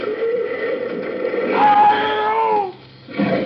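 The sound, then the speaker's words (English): A terrified tiger inside a cage rolling down a hill lets out a loud, drawn-out, distressed roar, its pitch rising and wavering before breaking off briefly, then a short rough snarl at the end. “Down the hill, the cage rolls with a terrified tiger inside.”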